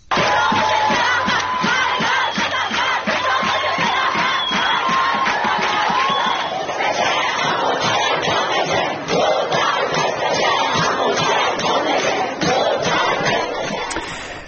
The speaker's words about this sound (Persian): یکی از مهمترین اتفاقات در دانشگاه الزهرا در تهران، یعنی روزی که ابراهیم رئیسی، رئیس جمهوری اسلامی، به آنجا رفت، صورت گرفت. بخشی از اعتراض دانشجویان به رئیس جمهوری اسلامی گوش کنیم.